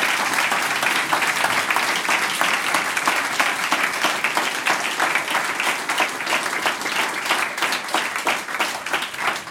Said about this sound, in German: Das ist dein Applaus